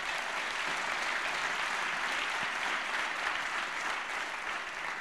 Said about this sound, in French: Vous pouvez au moins l'applaudir lui aussi. Hein.